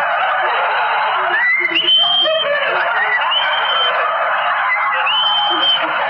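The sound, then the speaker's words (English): A human voice imitates a tomtit's call: a loud, steady stream of raspy chirping with a few short, high whistled notes rising out of it, with no speech alongside. “And then the sweet sound of the tomtit.”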